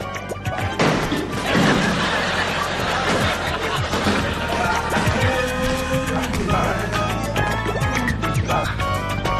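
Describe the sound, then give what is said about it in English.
A loud crash of something shattering, with a burst of sharp impacts and clattering debris that keeps rattling and scattering for several seconds amid a busy, noisy background. “That thing's shattered.”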